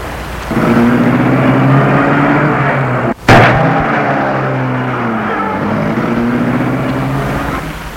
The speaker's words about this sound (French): Elle va vers la voiture, la portière s'ouvre, elle s'engouffre et la voiture démarre.